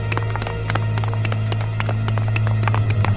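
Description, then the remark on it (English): Several people run next door with quick, irregular, overlapping footfalls for about three seconds over a steady low hum. The steps are fairly loud and continuous, with no voices. “Hurry up, dears, let's run next door!”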